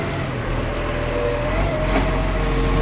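A heavy truck engine rumbles steadily with a low drone as the truck is moved into position at a work spot, joined by a hissing air brake burst and faint high whines, with no talking.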